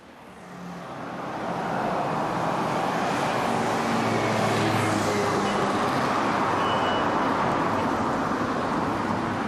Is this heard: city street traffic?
yes